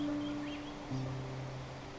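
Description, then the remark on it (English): A steady, even rush of flowing water from a nearby waterfall in a rainforest fills the whole clip, with a low humming tone and a few faint, high chirps above it. No one speaks. “You can't see it yet, but as you can hear, nearby is a wonderful waterfall that fills this place with the sound of flowing water.”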